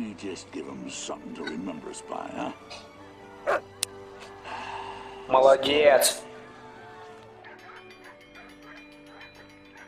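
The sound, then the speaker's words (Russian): Sled dogs at a sled dog race bark and whimper excitedly, with scattered yips early on and a loud burst of barking near the middle, while a person speaks briefly. “Майкл Джордан, собачьих упряжек, Оливье.”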